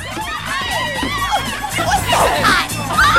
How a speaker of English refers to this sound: The girls scream out